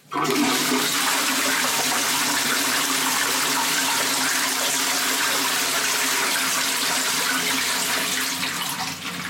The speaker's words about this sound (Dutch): En een normale spoeling is tussen de 3,5 en de 5 liter water van elke toilet. Ja. En dat is veel.